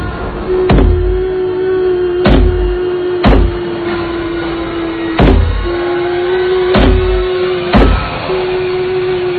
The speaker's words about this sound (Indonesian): Sambil mengetuk-ketuk pintu toilet yang ada di belakangku.